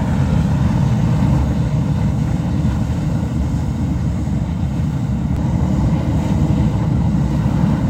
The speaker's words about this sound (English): The Ledge Geyser suddenly got much louder just now.